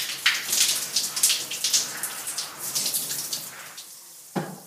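Water from a shower streams steadily with a broad hiss, fluctuating slightly as it splashes, then tapers off near the end with a brief thud or clunk. No one speaks.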